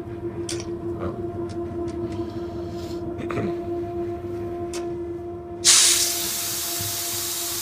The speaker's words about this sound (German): Ja, jetzt wurde gerade der Zug aufgepumpt.